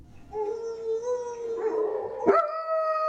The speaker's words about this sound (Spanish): Pero, ¿por qué aúllan los perros en la noche? Porque sienten hambre o tienen frío. También lo hacen debido a que se sienten solos y es una manera de llamar la atención de los demás.